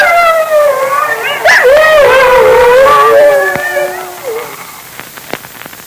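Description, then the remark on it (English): Several wolves, gathering and circling in, howl together in long, overlapping wavering cries that rise and fall for about four seconds, then fade out, leaving a few faint clicks and rustles. “the wolves are closing in”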